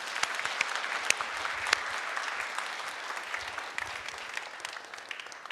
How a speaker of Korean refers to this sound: 예, 박수 한번 드리겠습니다.